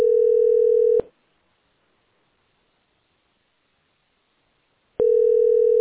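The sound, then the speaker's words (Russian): A telephone ringing tone from a repeated, unanswered incoming call: a steady, clear electronic hum sounds for about a second, falls silent for several seconds, then starts again, with no talking. “Мы ему не отвечаем, он, сука, звонит и звонит, блядь.”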